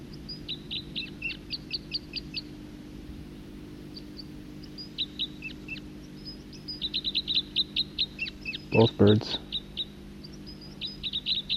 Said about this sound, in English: Both birds. Second bird.